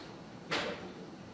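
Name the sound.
door being closed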